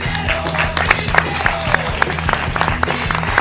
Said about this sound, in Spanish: Un fuerte aplauso al señor Don Rodrigo Rato.